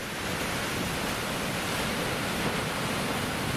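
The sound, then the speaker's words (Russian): A steady, even roar of sea surf fills the whole stretch, waves breaking and part of the water washing back against the incoming waves, without any single distinct crash standing out, and no voices. “Часть воды уходит назад и подрывает мощь наступающей новой волны.”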